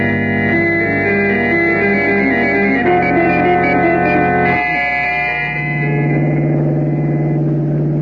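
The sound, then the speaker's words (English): A hired car's engine drones steadily and loudly as it drives on a rough road through desolate country in Montana, its hum shifting pitch a couple of times, with a rough, rumbling texture and no voices. “We fly to Helena, Montana, hire a car there, and drive the rest of the way.”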